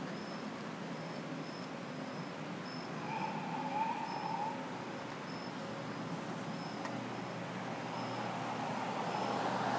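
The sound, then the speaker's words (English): A police car siren gives a brief warbling chirp, rising over steady low city street rumble and hum, then falls silent again. No one speaks. “Which makes sense if they're in a city, because then they only just beep it when they need people to go through, but they leave their lights on.”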